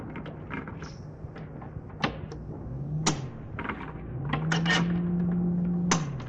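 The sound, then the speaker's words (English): A desk drawer, the bottom right-hand one, slides open with a low scraping rumble, followed by scattered clicks, taps and clatters of objects being shuffled around inside as someone looks for a light bulb, with no talking. “Would somebody go in the bottom right hand drawer, the far drawer of my desk, and get me a bulb for this?”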